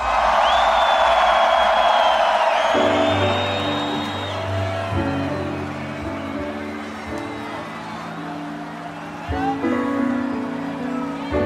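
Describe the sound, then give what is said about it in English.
A big crowd at the Tomorrowland festival roars and cheers over loud, steady music, with high whistles and whoops cutting through the dense wash of noise. “So if you're having a good time for Tomorrowland, for yourself, for everything that we love in this world, make some noise!”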